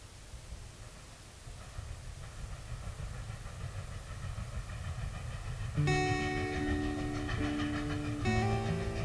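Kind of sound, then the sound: vehicle, train rolling on rails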